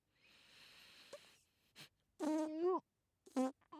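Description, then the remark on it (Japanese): A soft airy hiss gives way to two loud, close fart sounds, a longer squeaky, buzzing one and then a shorter burst, with no talking. “おちおなら。”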